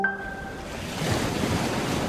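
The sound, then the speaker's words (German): Waves and surf of the North Sea in 1976 wash steadily in a broad, rushing roar, with a brief bright tonal ring at the very start fading out as the sea noise swells slightly louder. “Die Nordsee im Jahr 1976.”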